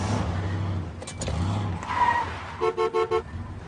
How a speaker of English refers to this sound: I'm just having a little trouble here with the brakes, that's all.